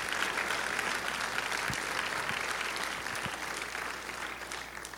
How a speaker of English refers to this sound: So let's give these ladies a round of applause also.